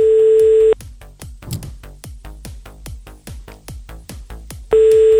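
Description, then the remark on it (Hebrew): A loud, steady electronic telephone busy tone sounds at the start and returns at the end, with a quick, evenly spaced ticking pulse filling the gap between the bursts, from a live radio show's call to a listener that goes unanswered. No one speaks. “וחבל שאין תשובות לטלפון.”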